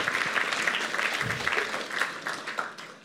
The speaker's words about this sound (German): darf gerne einen Applaus geben. Danke vielmals.